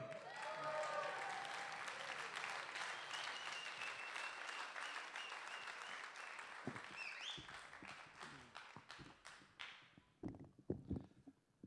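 A crowd applauds warmly for a competing poet after her score of 25.2 is announced at a poetry competition, dense clapping that holds steady at first, then thins out into scattered individual claps before fading near the end; no one speaks.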